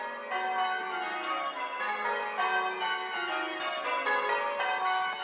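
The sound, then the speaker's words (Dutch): Church bells in Ghent ring in a full, continuous peal, their overlapping metallic tones clanging and sustaining steadily for several seconds, with fresh strikes layering over the lingering hum. No voices are heard. “En hij kijkt uit het raam en terwijl de klokken bijen, ziet hij hoe de als pauwen uitgedoste top van de Europese aristocratie door de Gentse straten zich begeeft naar de kerk van Sint-Baafsabdij.”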